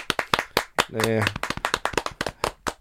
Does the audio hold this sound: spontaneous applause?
yes